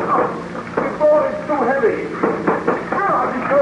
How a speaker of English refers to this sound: Help me to break this door open. It is a heavy door.